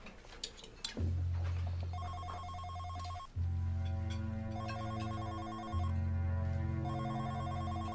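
A mobile phone rings loudly, its electronic ringtone repeating in steady bursts with brief pauses between, a low buzzing tone underneath the bright chiming notes. No one speaks.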